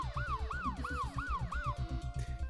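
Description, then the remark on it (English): Sirens of many emergency vehicles, police cars and an ambulance, coming down a winding road, wail in a fast, repeating up-and-down sweep, about five cycles, with a steady tone layered over a rumbling, pulsing engine-like low end. No one speaks. “coming down the like circular loopy road, a lot of emergency vehicles. Like, in addition to cops, there's also like an ambulance and such.”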